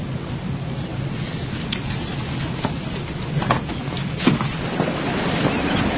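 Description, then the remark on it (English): Steady ambience on a boat at rest on water: a constant low wash of water and breeze, broken by a few soft knocks and creaks scattered through it, with no voices. “So why do you live on the boat?”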